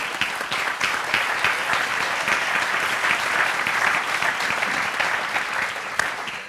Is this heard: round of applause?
yes